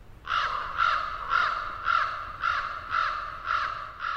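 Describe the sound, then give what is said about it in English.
A crow caws repeatedly, about eight harsh, raspy calls in a steady rhythm, fairly close and clear with no one talking. “These remarkable birds have fascinated humans since ancient times.”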